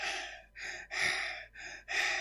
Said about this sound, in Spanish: No respiramos ni con la nariz ni con la boca, ¿eh? Con los dos. Es complicado de explicar en un audio. Digamos que es una respiración que suena. Seguro que lo habéis hecho inconscientemente.